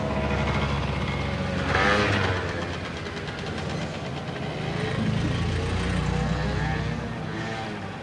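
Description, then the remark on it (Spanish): A motorcycle carrying two people drones steadily as it rides along a road away from the town centre, a continuous, fairly loud rumble with shifting pitch and no voices. “Más tarde van en la moto por una carretera apartada del centro.”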